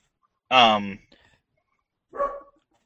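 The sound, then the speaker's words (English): Two dog barks, the first loud and drawn out with a rough, harmonic tone, followed by a shorter, softer bark about a second and a half later. “We may have to take a quick break, but keep going, unless he's just barking for the fun of it.”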